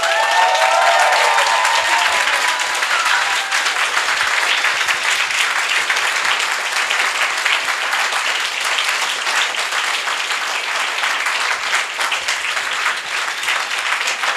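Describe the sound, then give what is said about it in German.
Sustained applause from an audience in thanks to an event's organizing team in Hamburg, a dense wash of many hands clapping at steady loudness throughout, with a few faint voices or cheers briefly audible near the start. “Und weil ich gerade das Mikro habe, kann ich das kurz diktatorisch auch behalten und den Dank mal denen aussprechen, die bisher noch gar keinen Applaus bekommen haben.”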